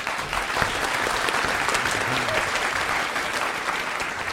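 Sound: studio audience applause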